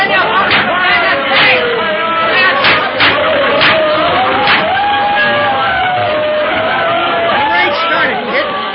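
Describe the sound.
A large, dense crowd watching a fight roars with excited chatter and cheering, a steady loud wall of voices punctuated by sharp shouts and whoops throughout.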